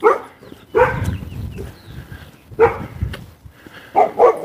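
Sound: dog barking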